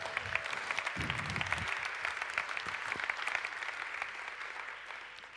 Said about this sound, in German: Ja, vielleicht sowieso ein Applaus für die wunderbare Techniker in unserer Gemeinde. Ja, danke für euch.